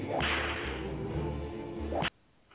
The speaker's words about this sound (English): They don't even have sirens. They just have whips riding on a horse, and they're whipping the wind. You know when they're coming.